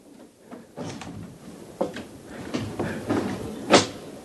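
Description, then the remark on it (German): A door being opened to look into a church service, with a rattle of the handle, scraping creaks and several wooden clunks, ending in a sharper knock as it swings free. No one speaks. “Dazu brauche ich nur diese Tür zu öffnen.”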